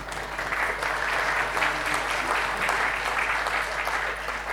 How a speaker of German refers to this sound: Und ja, gibt es hier irgendjemand von der Orga, weiß nicht, da, die können auf jeden Fall einen Applaus gebrauchen.